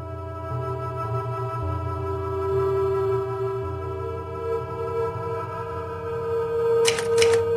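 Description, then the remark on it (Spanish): A steady, low musical drone plays throughout, then near the end a short burst of three or four sharp typewriter key strikes clacks over it. “La máquina de escribir me lleva.”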